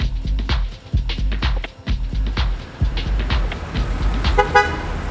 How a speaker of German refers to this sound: Blechlawinen wälzen sich übers flache Land.